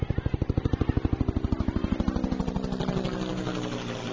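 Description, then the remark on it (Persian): A helicopter engine roars as it circles over the roof of the US Embassy in Saigon, a fast rhythmic chopping at first that blurs into a steady, heavy drone as it builds. No voices. “صدای قررش موتور بالگرد شدت گرفت.”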